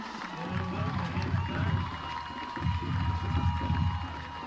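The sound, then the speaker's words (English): Steady crowd noise from a night football game between Pleasant Grove and Commerce fills a large outdoor space, a continuous wash of many voices murmuring and shouting, with low rumbling swells rising and falling throughout. “You hear a lot of the crowd sound from Pleasant Grove tonight, as that's what the best crowd mic we have had tonight.”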